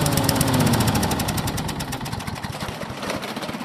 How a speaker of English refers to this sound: You just mow it, right? It just never seemed to stop mowing. It just take forever, that job.